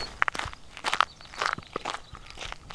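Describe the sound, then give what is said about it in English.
Footsteps walking outdoors on the prairie at about 5:30 in the morning, a series of crunchy, gritty steps in an uneven rhythm at moderate loudness, with no one talking. “I'm just gonna walk out here for a little ways and see what I can hear.”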